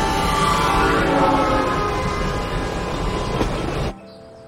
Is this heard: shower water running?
no